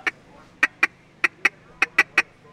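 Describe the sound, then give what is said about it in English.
A reed duck call, a small barrel with a mouthpiece and reed held in the hand, is blown to give a series of about nine sharp, nasal quacks in an uneven rhythm. The quacks are loud, with a low steady hum underneath. “Jan's using a device to make his duck call. It's a small barrel with a mouthpiece and reed that fits nicely in the hand.”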